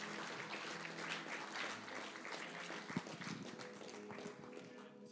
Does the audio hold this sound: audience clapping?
yes